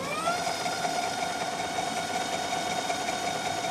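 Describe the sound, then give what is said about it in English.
Electric scooter wheels roll over cobblestones on a street in a steady rattling rumble, with a thin motor whine that rises briefly at the start and then holds level. No one speaks. “you can only hear the wheels hitting the cobblestones”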